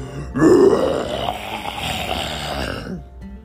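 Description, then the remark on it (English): A voice imitates a ginormous roar, letting out one long, loud, growling roar that bursts in abruptly with a harsh, throaty low rumble and holds for nearly three seconds before fading out. “As they got closer to the waterfall, Roger got ready and let out a ginormous roar.”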